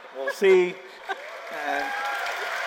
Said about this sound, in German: Beifall der Zuhörer für diesen Seitenhieb auf Präsident Trump.